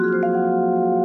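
Several vibraphone notes, struck with the pedal held down so the felt under the bars does not muffle them, ring together in a sustained, shimmering chord, with another note joining just after the start. The tones hold steady without decaying, moderately loud, with no talking.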